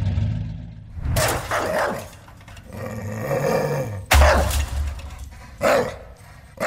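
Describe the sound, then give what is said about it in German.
Guard dogs bark aggressively in loud, harsh bursts at irregular intervals, with throaty growling between barks, over a steady low engine rumble, at the end of the Escape refugee-experience tour in a truck container at Vienna's Museumsquartier. “Laute Befehle von Schleppern, Motorengeräusche, anschlagende Wachhunde.”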